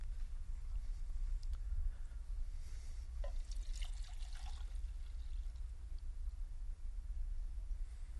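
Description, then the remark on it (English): Water pours steadily into a container with a soft splashing trickle that grows brighter and more active midway through, heard fairly quietly over a low, constant background rumble with no talking. “A minute ago, I was pouring water up here. Got another container.”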